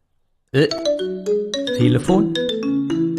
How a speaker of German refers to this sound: Telefon. Einen kleinen Moment mal.